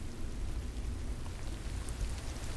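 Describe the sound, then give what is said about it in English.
A heavy rain downpour, a steady dense hiss of drops with a deep low rumble beneath, constant and unbroken throughout with no voices. “I sprinted to the back window anyway, squinted into the downpour.”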